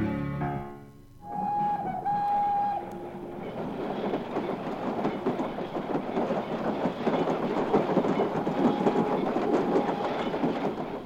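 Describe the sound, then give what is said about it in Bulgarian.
A train zigzagging into the village of Dropcheta s Luk rolls steadily along the rails with a dense, continuous rumble and rattling clatter, preceded by a brief sustained whistle-like tone near the start; loud, no voices. “След известно време влакът влезе на зигзаг в село Дропчета с Лук, което беше най-големият град в голямата, много голямата страна Алабашия.”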